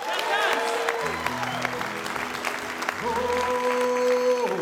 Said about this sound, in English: Please give a big round of applause and welcome back to the Mountain Stage